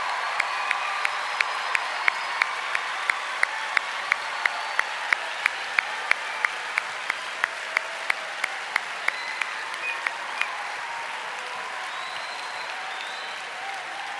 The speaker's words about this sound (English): we want to say welcome to our family, and we want you to stand up, and we just want to applaud for you. Applaud for Jesus.